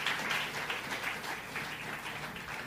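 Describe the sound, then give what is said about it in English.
A church audience claps hands at the preacher's call, a dense, continuous burst of applause, steady and fairly loud throughout, with no clear individual rhythm. “If you hear what I said, clap your hands.”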